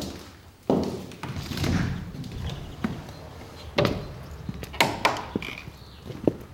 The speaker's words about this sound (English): Let's walk down the stairs. Try to walk to the sound of my footsteps so that we can stay together.